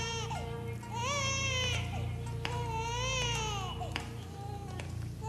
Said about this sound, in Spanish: A lo mejor necesita el consuelo de tu mano. ¿Por qué no para de llorar? A lo mejor este llanto tiene otro significado.